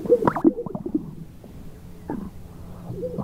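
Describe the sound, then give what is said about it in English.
A male grouse's mating display call as males puff out their chests and strut to catch a female's eye: a string of low, bubbling pops and gurgles, loudest in the first half second, then softer irregular popping and wet gulps with no voices. “And this is what their pickup line sounds like.”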